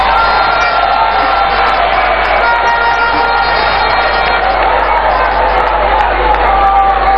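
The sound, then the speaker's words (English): A large audience cheers and claps loudly, a dense, steady roar of voices and applause that fills the whole stretch without letting up. “so the dads should clap for us.”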